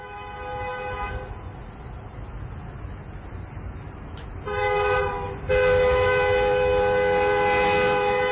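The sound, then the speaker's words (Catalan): A train rumbles steadily along the rails while passing a level crossing, then sounds a long, loud horn blast that rises after a few seconds and holds strong until the end, with no voices present. “Però el nostre viatge en tren continua i, com dèiem, viatge històric, eh?”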